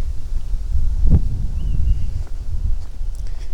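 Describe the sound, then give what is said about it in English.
Strong wind roars steadily across the microphone, a loud, low buffeting rumble that fills the whole stretch with no talking, plus a faint rustle and a brief thump partway through. “It's already way too windy.”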